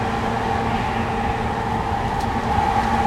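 Steady rumble of a train in motion heard from inside a passenger car, a continuous low drone with a sustained hum and faint rattling, no voices.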